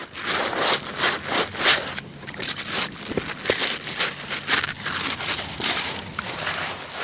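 Agricultural workers, suited up and gloved, briskly and rhythmically scrub and sterilize their boots with large stiff brushes, a steady run of rough, hissy bristle strokes repeating for several seconds with no voices.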